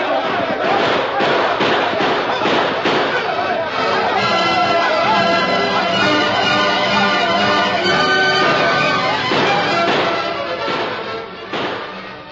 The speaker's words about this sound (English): As the sheriff's posse moved in to surround and capture the outlaw gang, heavy gunfire echoed and re-echoed throughout the canyon. Spurts of orange flame laced the darkness of the night.